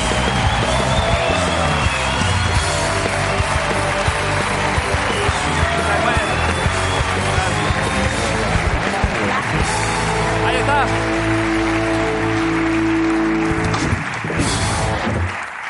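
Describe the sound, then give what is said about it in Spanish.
A studio audience claps loudly and steadily for a guest singer, with dense applause and some cheering filling the whole stretch, as a band plays underneath toward the end. “Pido un aplauso para …, hoy en la Resistencia.”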